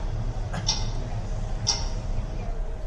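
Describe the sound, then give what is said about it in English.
A voice imitates a ticking clock with two crisp clicks spaced about a second apart, over a steady low background hum. “Yeah, I was the clock. I did that.”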